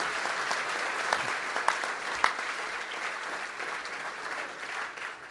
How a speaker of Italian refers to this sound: Abbiamo visto adesso, è toccato per così dire, che loro hanno portato il più grande peso del lavoro, hanno lavorato notti, lavorate anche domenica, hanno lavorato durante il pranzo, e adesso meritano realmente un grande applauso da parte nostra.